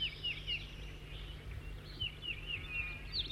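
A new bird, numbered 206 or 207, sings a series of short, high, whistled chirps, repeated at an uneven pace throughout, fairly soft over a steady low rumbling background hum.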